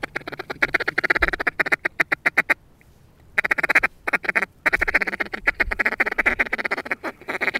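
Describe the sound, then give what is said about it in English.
A wooden duck call plays a fast, chattering feeding call, also called the gabble, imitating content ducks feeding in a marsh: rapid clipped quacks in bursts with brief pauses between, steady and fairly loud, with no voices. “It's called a feeding call. That's like when they're kind of in the marsh, or called the gabble.”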